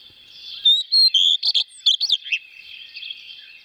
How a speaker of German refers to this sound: Das ist ein Haussperling und der Gartenrotschwanz, der klingt so.